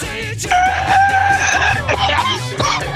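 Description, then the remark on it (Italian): A person imitates a coughing rooster's crow in a strained, raspy voice, loud, with a few broken, cough-like breaks between the drawn-out squawking calls over about three seconds. “Il gallo con la tosse è bellissimo.”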